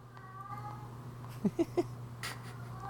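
A pet cat at home gives three short, rising meows in quick succession, clear, over a steady low background hum, calling out after its owner has gone upstairs alone.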